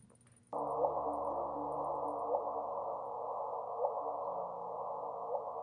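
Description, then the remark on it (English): A gravitational wave chirp turned into sound: a steady, hissing electronic tone with a short rising blip that repeats about four times, evenly spaced, fairly loud, with no talking. “We have the chirp.”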